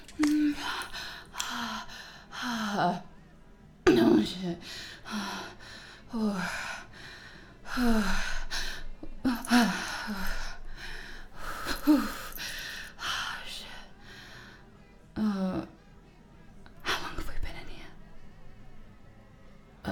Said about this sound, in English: The heavy breathing. It was a panic attack.